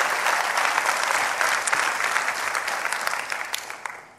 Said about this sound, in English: Come on, let's give Jesus a hand clap for your pastors.